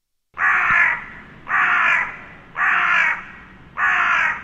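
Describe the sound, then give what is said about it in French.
Four loud, harsh caws from a crow, evenly spaced about a second apart, each a raspy scolding blast with brief quiet gaps between. “On en trouve même à Dijon, ces oiseaux-là.”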